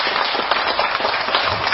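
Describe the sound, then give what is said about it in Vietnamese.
A crowd claps steadily for an elderly Buddhist nun, a dense wash of many hands applauding together, continuous and even throughout with no voices standing out. “Bây giờ tụi đi cho một tràng vỗ tay cho cô chủ năm.”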